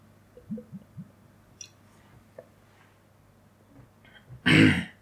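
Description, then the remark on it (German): Someone takes a sip of a drink: three soft gulping swallows in quick succession, a few faint clicks, then a brief, loud breathy exhale like a satisfied 'ahh' or throat-clear. No talking. “Ich trinke nochmal einen Schluck.”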